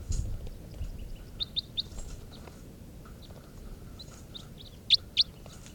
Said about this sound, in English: Test recording here, bird 437. As wild birds come in. 437.